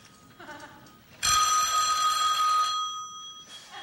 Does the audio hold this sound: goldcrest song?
no